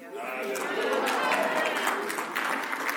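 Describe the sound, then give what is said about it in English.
A church audience claps in a steady, moderate patter for about three seconds during a sermon, with a murmur of voices and a few calls mixed in beneath the applause. “Why wasn't that clap louder than the other?”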